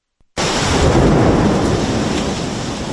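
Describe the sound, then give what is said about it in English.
Heavy, roaring torrential rain pours down in a dense, steady wash in central Athens during a wave of bad weather, with the deep rumble of a thunderstorm underneath, loud after a brief moment of silence. “Torrential rain hit central Athens Thursday as a wave of bad weather made its way across the country.”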